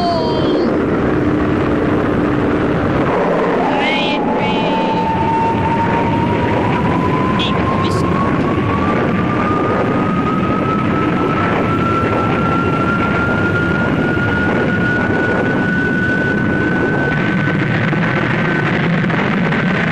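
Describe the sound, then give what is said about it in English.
A loud, continuous engine roar of an aircraft landing, with a steady whine that slowly climbs in pitch, over dense rumbling noise, with a brief sharp burst early on but no clear crash impact. “Now, we've got to start off with a big blast here. In fact, a landing and a crash and a thunder and all!”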